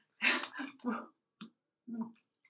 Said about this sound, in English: So when you're sort of really in that situation, Oh my gosh, I'm about to cough. Hang on.